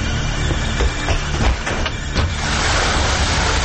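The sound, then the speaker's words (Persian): Heavy rain pours down in a dense, steady roar, loud, with a few sharper splashing surges in the first half and no voices. “داره بارون شدیدی میاد.”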